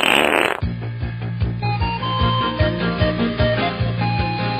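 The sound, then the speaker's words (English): A short, loud, sputtering fart bursts out for under a second, then gives way to bouncy music with a steady thumping bass line and bright melodic notes. “He fouled himself.”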